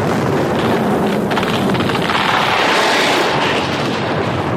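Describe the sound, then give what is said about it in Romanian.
Cannon fire and shell explosions at sea merge into a loud, unbroken roar, with deep rumbling and crackling bursts that flare briefly along the way; a shell shears off the starboard end of a ship's foresail yard, which falls into the waves. No voices are heard. “Proiectil a retezat capătul dinspre tribord al vergii focului care s-a prăbușit în valuri.”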